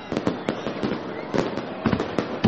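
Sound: fireworks exploding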